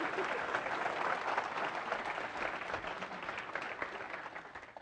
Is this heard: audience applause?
yes